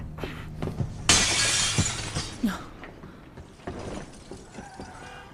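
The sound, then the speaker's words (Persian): Window glass shatters as a man jumps out through the window, in a sudden, loud, bright crash that rings for about a second, followed by scattered tinkling pieces falling and settling. No one speaks. “یه مرد الان از پنجره پرید بیرون.”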